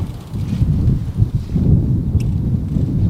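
Strong wind buffets the microphone outdoors on the former Formula 1 racetrack at Zolder, about 45 km west of Maastricht, a constant low, rumbling roar with gusty surges that lasts the whole time. Nobody speaks.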